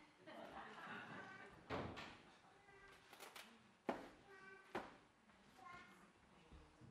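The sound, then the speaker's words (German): A door opens as the original picture comes in through it, with a few sharp thuds and knocks spaced over several seconds, while voices talk quietly through the whole scene. “Aber das Originalbild kommt gerade zur Tür rein.”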